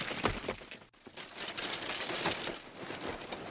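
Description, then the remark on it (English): Dense Foley track for the Helm's Deep battle, performed by Foley artists to picture: many footsteps and bodies moving at once, overlapping scuffs, thuds, rustles and clattering clicks in a busy, steady wash, with a brief drop just before the first second. “All that movement of all those people. Footsteps. These are all performed by Foley artists to picture.”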